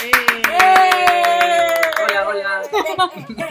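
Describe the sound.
Loud, brisk applause with sharp, rapid hand claps from a small group, while voices cheer and hold drawn-out whoops over the clapping before it thins out near the end.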